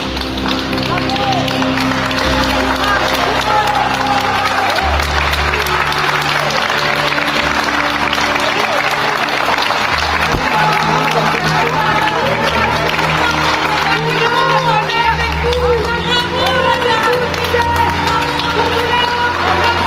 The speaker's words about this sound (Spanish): Ante tamaña barbaridad, la salida de Giselle, la víctima, del tribunal de Aviñón, en un discreto y elegante silencio, fue correspondido por los presentes con una atronadora ovación.